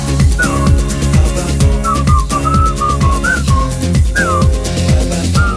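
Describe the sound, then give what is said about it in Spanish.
A bright whistled melody glides over a steady, pulsing dance beat with deep bass, the tune rising and falling in short looping phrases at the intro of a dance song. No one speaks. “hacía un montón de canciones que incluían silbidos como esta”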